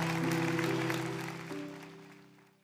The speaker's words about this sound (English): Come on, let's clap our hands for God's word today.